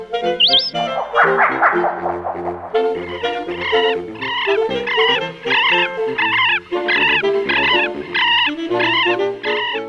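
A loud, continuous series of close bird calls, harsh and harmonic, repeating in quick bursts over a steady low drone, with one rising whistle at the very start. No one speaks.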